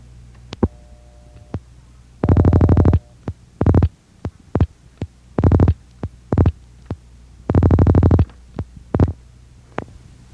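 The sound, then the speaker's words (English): A telephone line crackles with cross-dialing interference: sharp pulse clicks scattered between longer buzzing, humming tone bursts that come and go irregularly over a low steady line hum, with no voices. “You will now hear an example of cross-dialing and cross-ringing. Cross-dialing will be demonstrated first.”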